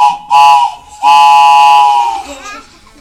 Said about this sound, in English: Here comes a train, you guys.